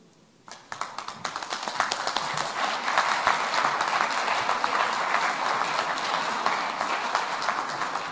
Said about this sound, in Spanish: Un fuerte aplauso.